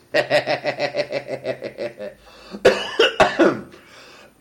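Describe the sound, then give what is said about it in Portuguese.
A quick run of rhythmic, voiced bursts gives way to a couple of sharp coughs and a rough throat clearing, loud, from a person with phlegm in the throat after eating Indian food. “Tô com um pigarro que comi uma comida indiana e que não ficou muito legal.”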